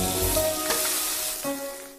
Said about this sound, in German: Dazu die rauschenden Bratgeräusche und die Musik. Also ich glaube, das macht den Klang in diesem Intro aus, dass diese Bereiche immer ineinander übergehen, dass sie fast verschmolzen sind.